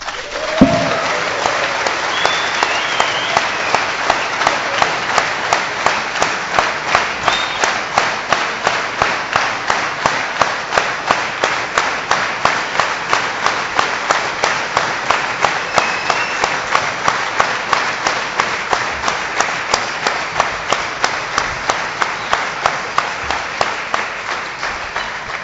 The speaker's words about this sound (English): Keep clapping.